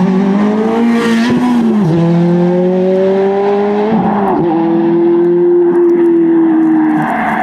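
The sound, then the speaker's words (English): A red Ferrari F430 sports car from around 2007 or 2009 roars loudly, its engine pitch climbing steadily and dropping briefly at two gear shifts before rising again. No one speaks. “It's a Ferrari F430 red.”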